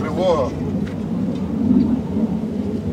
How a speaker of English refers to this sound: Just as we finish talking, a Ukrainian jet flies above.